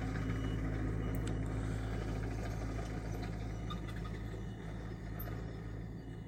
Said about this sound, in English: Now this guy's loading a tractor.